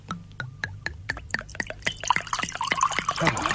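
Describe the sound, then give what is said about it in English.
Liquid sounds at a wine tasting: a few light clinks and splashes, then a steady, burbling pour that grows denser and louder as wine is poured into a glass. “If we could just pour the line out.”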